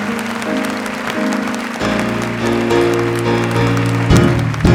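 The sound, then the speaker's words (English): A church audience applauds for the Lord after a prayer, with dense, steady hand clapping that swells slightly in loudness, while sustained organ or keyboard chords play underneath throughout. “Let's give the Lord just a clap on.”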